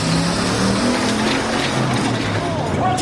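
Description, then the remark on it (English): A motor engine revs steadily, its pitch stepping up and down, loud, over a dense wash of noise and faint background voices; the Chairman team's engine overheats during a timed lifting contest. “The catalysts are trying to go for one last lift, but the chairman's engine has overheated.”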